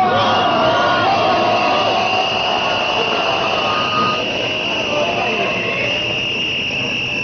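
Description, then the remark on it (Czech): Loud, dense crowd noise from a protest by the civic initiative Ne davimo Beograd against a restaurant, with many voices shouting and chanting over one another in a continuous roar that holds steady throughout. “Da čujemo delić atmosfere i deo govora Dobrice Veselinovića, također iz građanske inicijative Ne davimo Beograd.”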